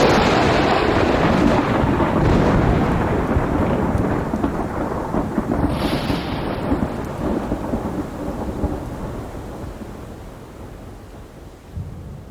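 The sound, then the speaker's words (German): A thunderstorm rumbles with a long, rolling peal of thunder that slowly fades, while steady rain hisses throughout. No one speaks. “Nie dagewesene Forschung, Blitzeinschläge und ihre Auswirkungen auf Panamas Regenwald.”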